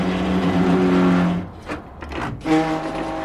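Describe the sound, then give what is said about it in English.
A heavy bus engine hums steadily as the driver puts the bus in gear, then breaks into a few rough, grinding bursts as gears clash, before the motor settles back into its drone. Fairly loud, with no voices. “He gamely puts the bus in gear.”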